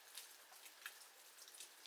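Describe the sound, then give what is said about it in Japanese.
Steady rain falls with a soft, continuous hiss, broken by a few sharper individual drops splashing. No voices, just the even patter throughout. “そう、遊びに行く途中で雨に降られたなんて運がなかったね。”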